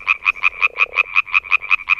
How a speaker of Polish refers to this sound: Natomiast kiedy są w wodzie, wydają bardzo głośny taki rzekotaż, dlatego nazywają się rzekotki i to też właśnie teraz możecie posłuchać.